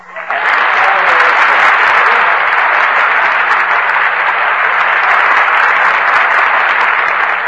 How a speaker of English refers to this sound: I just start applauding myself when I'm finished, like this. Oh, now I get it. The audience, and the audience gets it, too.